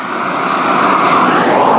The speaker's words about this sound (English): It's a 1.8, and the 1.8 Ford engine is actually made by diesel, is actually made by Renault, so it sounds like a Renault engine. Here's a Galaxy. His bonnet open.